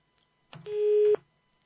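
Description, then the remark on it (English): A soft click and rustle, then one steady, buzzy telephone busy tone sounds for about half a second before cutting off abruptly, as a caller to a radio phone-in hangs up. No voices. “Guests keep calling and hanging up.”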